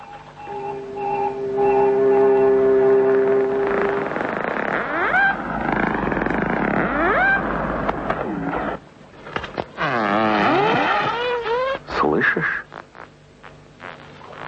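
Dolphin echolocation clicks, used to find even the smallest fish in murky water on the darkest night: brief sharp bursts of rapid clicking, mixed with warbling, rising and falling whistles and a steady low droning tone early on. No one speaks.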